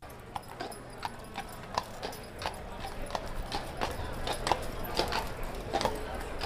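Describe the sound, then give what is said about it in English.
Steady clip-clop of horse hooves on pavement, a regular rhythm of sharp taps over a low rumbling street background, suggesting a horse-drawn wagon passing. “found him on Mackinac Island, standing on the street, enticing tourists into horse-drawn wagons.”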